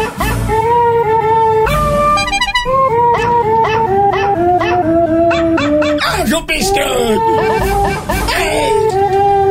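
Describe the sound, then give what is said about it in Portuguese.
A dog howls loudly in long, wavering notes that rise and fall in pitch, sustained through the whole stretch, along with the national anthem playing underneath. “Cachorro patriota.”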